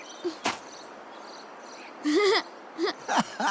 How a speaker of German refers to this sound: Das war ein Frosch.